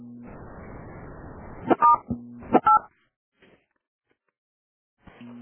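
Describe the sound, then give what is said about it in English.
Two short telephone keypad tones beep in quick succession as a number key is pressed during a group phone call, each a bright steady dual-pitched note, over a buzzy line hum that drops out briefly before returning. “I'm going to press one of the numbers here.”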